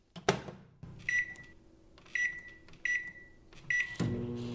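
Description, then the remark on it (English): A microwave oven in a kitchen hums steadily after a sharp clunk, with four clear electronic beeps sounding at roughly even intervals over the running motor, then a louder thump at the end. “Then the microwave arrived in our kitchen.”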